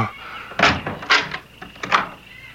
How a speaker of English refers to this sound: No, not just this minute, please. Not till I open the door to the closet.